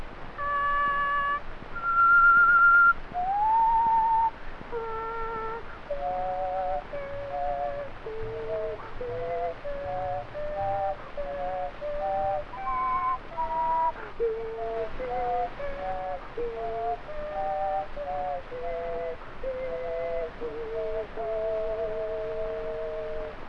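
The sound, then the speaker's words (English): A person whistles three tones at the same time, a reedy, chord-like sound that holds steady notes and then steps through a wandering melody for over twenty seconds, with no talking. “You ever hear me do those three tones at once?”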